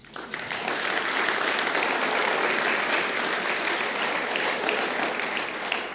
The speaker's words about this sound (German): Und deshalb ist das heute besonders, dass du heute da bist und du kriegst auch einen Applaus.